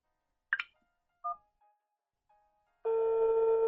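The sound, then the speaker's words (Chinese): A few short electronic beeps and clicks, then a woman's phone starts ringing abruptly with a call from her son, its loud, bright, steady ringtone continuing to the end. No voices. “你们不要，我儿子的电话。”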